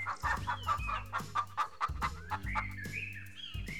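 hens clucking

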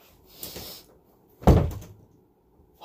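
door opening and closing

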